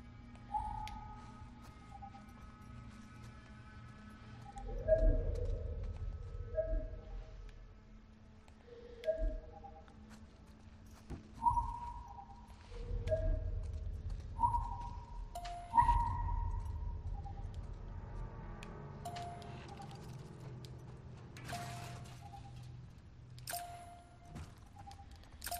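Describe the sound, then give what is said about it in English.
A video game's audio cue signalling that an item cannot be picked up: a string of short, mid-pitched tonal blips in an irregular pattern, with soft clicking noises over a low, steady background hum. No one speaks. “Okay, when it does the audio cue and that clicking noise, it means that you can't pick it up.”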